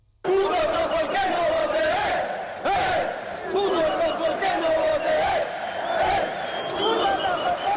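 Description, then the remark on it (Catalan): A large crowd of far-right demonstrators chants and shouts together in loud, rhythmic bursts, including racist and homophobic shouts, many voices rising and falling in unison with brief dips between phrases, sustained throughout without any single clear speaker. “i a concentració on s'han escoltat crits racistes i homòfobs i càntics com hagués.”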